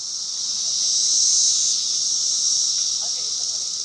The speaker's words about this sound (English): And the cicadas are out for the first time in 17 years. The cicadas!